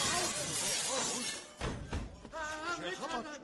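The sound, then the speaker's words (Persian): Window glass of the British consulate in Tabriz shatters in a loud, noisy crash with scattered debris as a crowd of people attacks it, followed by a sharp impact, and then a man begins speaking. “مردم شیشه قنسول خانه رو شکستن.”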